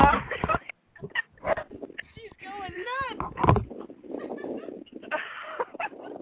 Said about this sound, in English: My dog is going apeshit.